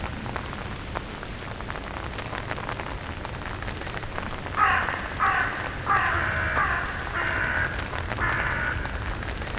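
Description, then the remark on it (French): A common raven calls five times in a steady series of hoarse croaks over a continuous patter of rain on a surface. No one speaks. “Donc ouais, je pense que le bruit du grand corbeau a une signification particulière pour moi.”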